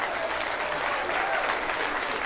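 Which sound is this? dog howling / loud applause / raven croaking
loud applause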